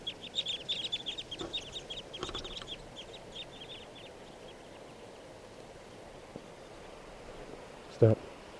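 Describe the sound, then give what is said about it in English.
A flock of type 2 birds in lodgepole pines, flocks of 10 and 15 merging, gives many quick, high chirps that overlap busily for the first few seconds, then fade to faint background noise, with a single soft thump near the end. “Comes some birds.”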